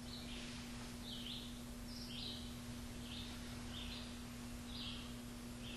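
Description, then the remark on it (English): A bird sings in short, repeated high chirps and phrases, fairly faint, over a steady background hiss and a low constant hum. “When you hear the sound of the bird?”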